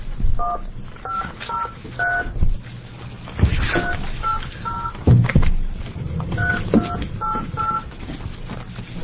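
Bursts of telephone keypad dialing tones as staff try to reach someone by phone during a committee hearing, short two-note beeps pressed in quick groups with brief pauses between, over a low rumbling background hum and occasional clunks.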